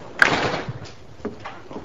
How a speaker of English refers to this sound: Close the door